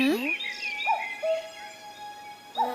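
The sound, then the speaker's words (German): A common cuckoo calls its soft two-note 'cu-ckoo', then starts again, over a steady background of high chirping birds or insects. “Ein Kuckuck. Der kann seinen Namen selber sagen.”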